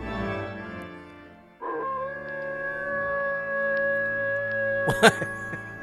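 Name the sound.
dog howling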